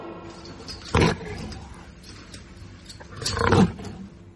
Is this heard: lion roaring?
yes